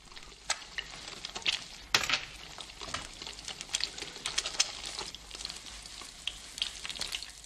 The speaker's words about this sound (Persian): مفتش آخرین تخم مرغ را هم بر می‌دارد و در ماهیتابه می‌شکند.